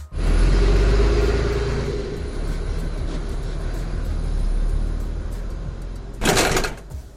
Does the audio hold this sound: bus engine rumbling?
yes